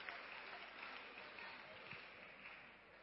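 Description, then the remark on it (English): A crowd claps steadily throughout, a dense wash of many hands applauding at once, sustained and fairly loud with no clear gaps, clapping for those who put their hands up. “Clap your hand for those who put their hands up.”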